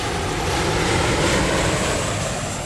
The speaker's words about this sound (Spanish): mi mamá y yo nos íbamos para el Aeropuerto Internacional El Edén y allí veíamos despegar y aterrizar aviones.